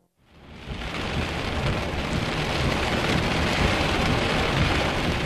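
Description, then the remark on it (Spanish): A heavy thunderstorm swells in within the first second: a dense, steady roar of pouring rain blended with deep, rolling thunder that stays loud and constant throughout, with no voices. “Probablemente fue después de medianoche cuando comenzó la tormenta.”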